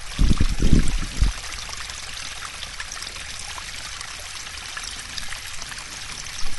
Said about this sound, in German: Hier kommen ein paar Bäche und Wasser. Und hier ist es sehr kühl. Und so hört sich zum Beispiel der Bach an.